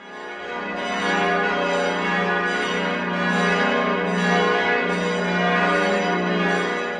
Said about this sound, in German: Die Pummerin ist die berühmteste Glocke Österreichs. Die Wiener und Wienerinnen tauften sie nach dem umgangssprachlichen Pumpern, für lautes Schlagen, Krachen oder Klopfen. Sie ist quasi der Herzschlag des Wiener Stephansdoms,